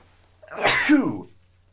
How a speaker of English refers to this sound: Yeah, I've been sneezing a lot since they stuck a knife into my nose and rearranged all my nose parts.